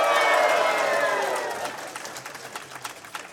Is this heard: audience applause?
yes